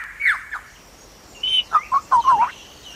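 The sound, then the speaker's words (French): A lyrebird mimics new noises that have invaded its environment, letting out a quick run of varied whistles and chirps: two early notes, a pause, then a bright burst of five or six clear calls with no talking. “Depuis quelque temps, l'oiseau lyre imite de nouveaux bruits qui ont envahi son environnement.”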